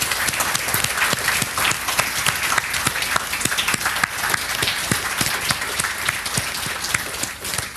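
An audience applauds steadily for several seconds to thank the many volunteer helpers, who stand up briefly, many hands clapping in a dense, even roar that fills the space without any talking over it.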